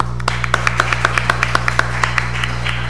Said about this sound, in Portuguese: Uma salva de palmas.